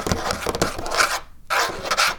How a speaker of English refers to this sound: And yes, it's the cat trying to jump up. She can't get up. There's not even enough room for her to turn around back there.